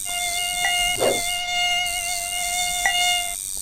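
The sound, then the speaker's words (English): A mosquito buzzes continuously in a steady, thin, high-pitched whine, fairly loud, with a couple of brief swells in intensity. No one speaks. “I just need the cicada and the mosquito.”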